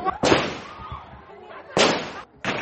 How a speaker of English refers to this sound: Prison officials fired into the air to disperse the growing crowd before putting Nyanzi into a van and taking her back to jail.